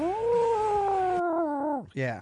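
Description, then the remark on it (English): A loud cat caterwaul: one long, drawn-out warbling yowl that slowly wavers and drops in pitch, followed by a shorter rising wail, the threat yowl a cat makes at other cats when about to attack. “Other cats making the war sound, or the I'm going to attack you sound.”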